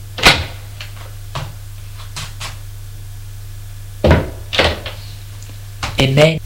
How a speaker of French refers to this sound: Ouvre la porte